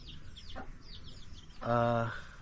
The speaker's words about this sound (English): And well, those are Bisayan chickens. They live. They're not exactly as delicious as we'd like them to be.